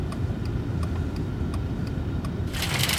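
A car's engine rumbles low while a turn signal ticks steadily, then a sharp hiss of braking as the car pulls up and comes to a stop in an empty parking lot in front of a supermarket.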